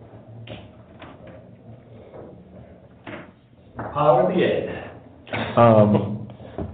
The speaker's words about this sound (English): Shut this door.